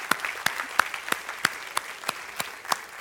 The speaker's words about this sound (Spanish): Yo le voy a pedir, por favor, que le demos un aplauso bien fuerte a esta banda que ya bajó, pero se lo merecen en el nombre de Jesús.